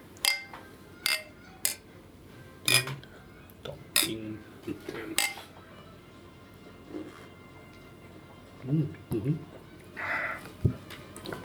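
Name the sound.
glasses clinking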